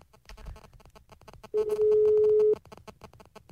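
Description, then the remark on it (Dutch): A single steady ringback tone from an outgoing phone call sounds for about a second, loud, with faint background noise before and after. “Hij gaat over.”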